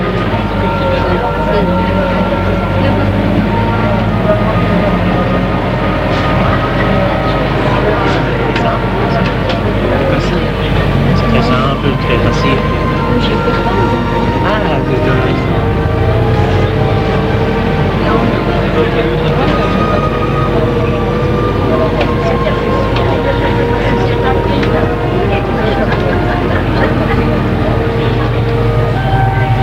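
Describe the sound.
A metro train rumbles steadily along the rails, a loud, continuous low roar with metallic squeals and clatter, and voices murmur indistinctly beneath the noise throughout.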